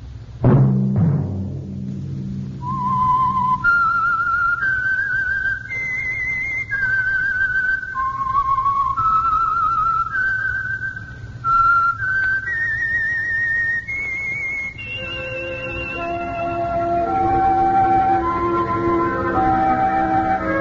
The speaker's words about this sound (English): Whistle be your signal for the Signal Oil program, The Whistler, each Sunday night at this same time.